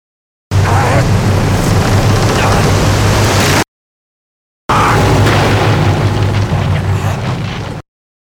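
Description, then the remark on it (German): A police cutter crashes against the rocky shore of Blackwell's Island in two loud, harsh bursts of about three seconds each, split by a brief silence, with a low rumbling hum beneath the noise. “Der Polizeikutter konnte nicht mehr. Er schellte am felsigen Ufer von Blackwell's Island.”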